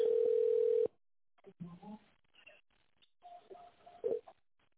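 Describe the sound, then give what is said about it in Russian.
A loud, steady telephone keypad tone, as digits are entered on the phone's keypad, holds for almost a second, then stops. Faint voices murmur over the line afterward, and one short beep sounds near the end. “Введите цифры, используя клавиатуру телефона.”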